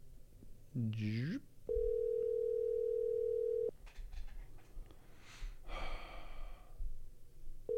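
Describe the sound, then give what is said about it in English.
A phone call rings out unanswered: one long, steady ringback tone lasting about two seconds, then a clipped start of the next ring, with a rising vocal gasp before and breathy sighs in between. “I mean, you don't answer the phone.”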